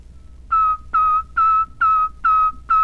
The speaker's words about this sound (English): And all of these letters are whistled exactly as they are pronounced. Here is the letter T.